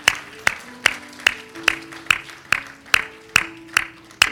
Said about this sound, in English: don't you give the Lord a hand clap of praise all over this house right now? Can we do it?